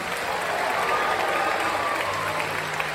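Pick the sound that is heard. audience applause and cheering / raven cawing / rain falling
audience applause and cheering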